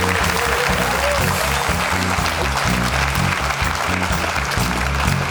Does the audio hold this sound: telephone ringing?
no